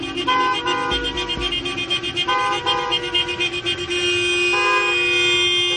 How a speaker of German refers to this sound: extra dafür für Berlin und extra für den Kreisverkehr in der Siegessäule Hupen-Techno komponiert.